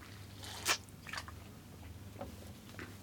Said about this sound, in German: Ich habe jetzt natürlich gerade vorher noch einen Hustenbonbon im Mund gehabt. Das ist natürlich super. Da habe ich jetzt gar nicht dran gedacht. Warte, ich neutralisiere mal eben mit Wasser.